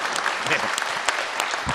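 A crowd of people breaks into steady applause, dense overlapping claps at a moderate, even level throughout.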